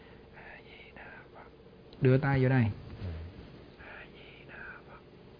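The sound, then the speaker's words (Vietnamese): Soft, breathy whispered recitation of the Buddha's name, shown as the way to recite late at night without disturbing a sleeping family, in two short airy stretches separated by a brief, louder voiced phrase spoken in a normal tone. “Nghe cái hơi thầm không? Hơi gió phải không?”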